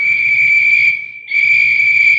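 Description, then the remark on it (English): A loud, steady warning whistle blows before blasting on a job dynamiting through a mountain. It briefly thins to a bare tone, then swells into a second long blast, with a low rumbling noise underneath and no voices. “Hear the whistles”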